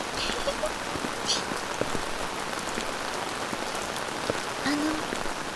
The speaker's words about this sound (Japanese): いいえ、私いわゆる雨女と言いますか、大事な日には必ずと言っていいほど雨が降ってしまうのです。私自身は雨が大好きですので、この体質を不自由に思ってはいないのですが、旦那様も雨がお好きなようで大変嬉しく思っております。